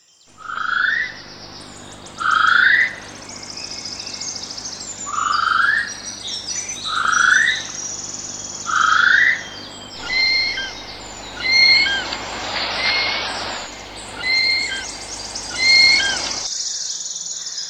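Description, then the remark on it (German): A New Zealand kiwi, a bird, calls in a steady series of about ten shrill, rising whistles, loud. The later calls turn harsher and noisier before stopping abruptly. “Was ihr hier hört, ist der Ruf eines Dinosaurier-Nachfahren. Ein neuseeländischer Kiwi.”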